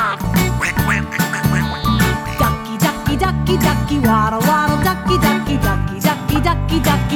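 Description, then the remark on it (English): Repeated duck quacks pop up in quick bursts over a loud, bouncy music track with a steady bass line, the quacks sitting up front in the mix. “Won't you quack like a duck? Quack like a duck.”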